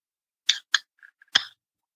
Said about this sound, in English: Last beer I'm going to drink right now. Let me pop it open.